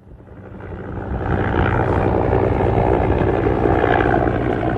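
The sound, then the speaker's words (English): A helicopter at the Al-Karama airbase on the Jordanian-Israeli border, waiting to take a sick child on a 30-minute flight to Amman. Its engine and rotors roar, swelling over the first second into a loud, steady drone with a dense, throbbing low rumble and no voices. “Well, at any moment now, Habiba will arrive here by ambulance and be transferred to the helicopter behind me.”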